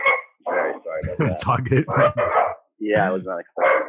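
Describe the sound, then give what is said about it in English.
Dogs bark repeatedly in loud bursts, several sharp yaps following one another in an uneven, excited rhythm with brief pauses between them. “It's got some dogs just like I do.”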